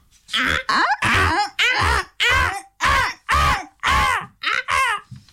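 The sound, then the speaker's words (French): A rapid series of about nine harsh, raspy parrot squawks, loud, each call short and scratchy with brief gaps between, and no talking alongside. “Il y avait des perroquets, papagali.”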